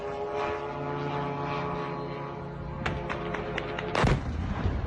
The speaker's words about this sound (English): A Ukrainian drone today has hit a building in Russia. We have video of this event.